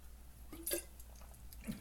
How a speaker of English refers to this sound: Now, as you know, guys, we drink Pinot Noir on this show. Let me take a sip.